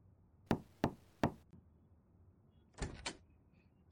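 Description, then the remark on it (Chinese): Three sharp, evenly spaced knocks by a mother on her son's bedroom door late at night, then after a short pause comes a brief rustling clatter, like the door being handled or opened. “妈妈敲门也不理，这么晚了，怎么还不睡觉？”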